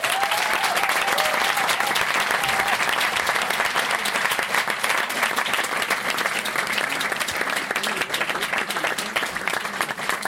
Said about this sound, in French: Et surtout pour nos comédiens fatigués qui, il y a une heure encore, étaient en train de répéter, peaufiner le spectacle, je vous demande de faire un tonnerre d'applaudissements pour M3, la nouvelle revue de Lausanne.